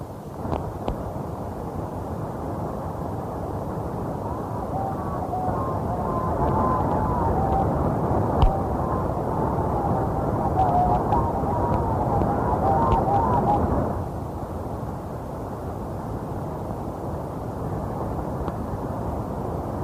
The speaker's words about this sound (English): Coming in on the plane. Over.